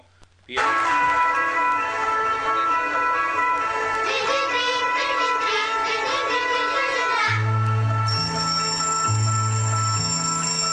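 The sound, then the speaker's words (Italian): An alarm clock rings with a bright, bell-like electronic melody that plays loudly and continuously, shifting into a pulsing low bass pattern with a high steady tone toward the end. “Quando suona mattina la mia sveglia birichina è d'accordo.”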